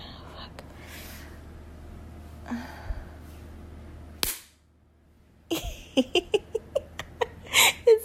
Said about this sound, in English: I have thick thighs, which is why it's so easy to hold this toy in place with my thighs. Why it makes such a satisfying noise when I slap them.